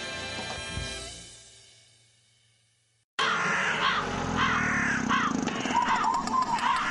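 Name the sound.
crows cawing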